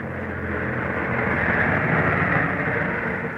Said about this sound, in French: L'avion continuait son chemin et le vrombissement aidait à détendre les trois agents.